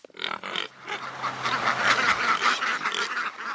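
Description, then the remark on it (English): A cluster of ducks quacking among pigs at Phoenix Hill Farm in Boscawen, New Hampshire, overlapping calls in a busy, continuous chatter with a faint low hum beneath; a couple of quick separate quacks open before the flock's noise swells. “Among pigs and ducks at Phoenix Hill Farm in Boscawen, young farming couple”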